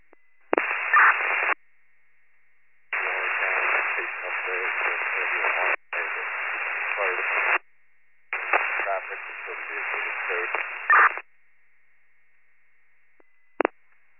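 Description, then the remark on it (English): Harsh, crackling radio static in four bursts of a second or more each, with muffled, garbled voice traces under the hiss, separated by near silence and ending in a brief click; the static is on fire unit 46's radio as it tries to call. “That's 46 fire unit, trying to call, your radio is all static.”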